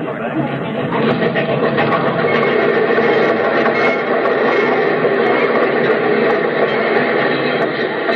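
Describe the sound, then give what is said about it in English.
A train pulls into a station with a steady, loud rumble and hiss that fills the whole stretch, while a crowd's voices murmur and chatter underneath. “I don't see anybody in uniform on that train.”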